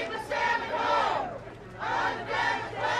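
Protest chanting through a megaphone in a parade for the Klamath Justice Coalition, a loud amplified voice shouting in rhythmic bursts as a crowd joins in, with short pauses between the repeated phrases.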